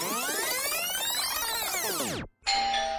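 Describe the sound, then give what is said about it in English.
A loud doorbell chime rings out in dense, layered tones that slide downward in pitch for about two seconds, breaks off abruptly, then resumes as a steady sustained tone. “The doorbell rings as the weary traveler arrives first.”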